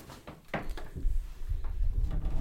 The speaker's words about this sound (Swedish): Jag tar och stänger dörren till köket också då.